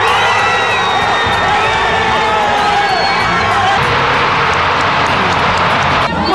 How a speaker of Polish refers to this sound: Niemal 50 tysięcy ludzi eksplodowało radością w Rio de Janeiro. W chwili, gdy w Kopenhadze ogłoszono, że cudowne miasto będzie gościło Igrzyska Olimpijskie w 2016 roku. Na plaży Copacabana ludzie skakali i krzyczeli z radości.